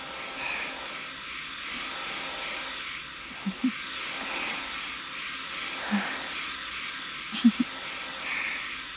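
hair dryer blowing

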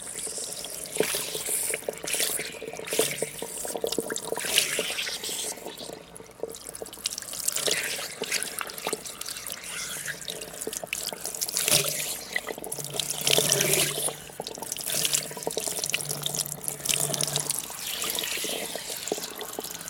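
shower water rinsing hair

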